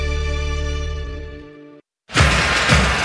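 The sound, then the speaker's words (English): A sustained musical chord fades out, a moment of silence follows, then a loud burst of a car windshield shattering crashes in and rattles on to the end. “This Buckeye season, don't let a broken windshield ruin your game plan.”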